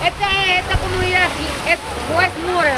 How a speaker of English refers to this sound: Around the corner from Stetson Middle School, three women in shorts carrying buckets and brooms have opened a fire hydrant. Water gushes out.